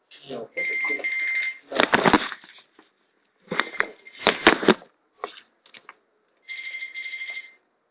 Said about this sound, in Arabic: تلفوني هذا؟